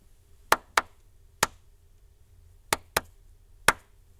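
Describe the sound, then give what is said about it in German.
Six sharp hand claps in a short rhythm: two quick claps and a single one, then the same pattern again, clapped as a rhythm sequence for listeners to memorize and clap back. The claps are crisp and dry, with no voices. “Merken Sie sich eine kurze Rhythmusfolge, die ich mit meinen Händen klatschen werde.”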